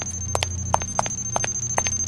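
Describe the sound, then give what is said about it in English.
A video game mine detector warning, set off because the player is too close to a mine, pulses in quick heartbeat-like double thumps, repeating steadily for about two seconds over a low droning hum and a thin, steady high whine. “It plays a nice heartbeat noise.”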